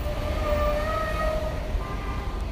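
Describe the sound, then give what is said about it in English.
A New York City subway train in Elmhurst, Queens, rumbles steadily with a heavy, continuous low roar, while faint high metallic whines drift over it, with no one speaking. “Walking out of the subway, it seems like everyone is speaking a different language here.”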